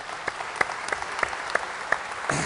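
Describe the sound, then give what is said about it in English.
An audience at a SQL Server software presentation applauds with scattered, moderately loud claps, individual sharp hand claps standing out in a steady rhythm over a softer crowd patter, with no one speaking. “It's always great getting applause when you're cleaning up your dirty laundry, yeah, right?”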